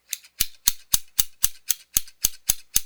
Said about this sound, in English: Those are the Scissors.